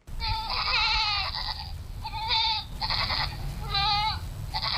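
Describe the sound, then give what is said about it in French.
Two goats bleat repeatedly and loudly as they are pulled out of a small enclosure behind a house in Mozogo, a town on Cameroon's northern border with Nigeria; four wavering cries in quick succession over a steady low outdoor rumble, with no one speaking. “tire ses deux chèvres hors du petit enclos situé derrière sa maison à Mozogo, une ville située sur la frontière nord du Cameroun avec le Nigeria.”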